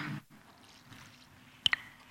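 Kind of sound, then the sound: human body sound, speaker drinking water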